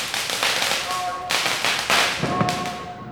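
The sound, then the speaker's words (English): Loud Diwali firecrackers in India burst in quick irregular succession, sharp cracking bangs one after another with a few whistling tones between them, continuous over a noisy background. “In India, I enjoyed the trays of Diwali sweets and nuts, but I hated the loud fireworks.”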